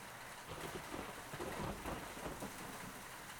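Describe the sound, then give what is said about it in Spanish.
Steady, dense summer rain pours down in the capital in a continuous hiss, with a low rumbling undertone like thunder beneath it; no voices, just the even wash of rainfall throughout. “Después, salió en su camino, bajo la lluvia veraniega de la capital.”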